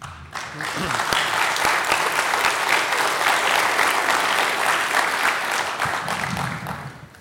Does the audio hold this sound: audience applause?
yes